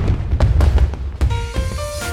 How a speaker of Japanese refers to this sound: 名古屋港の初夏の風物詩といえば、そう、花火です。